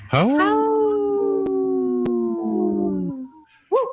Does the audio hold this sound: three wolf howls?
yes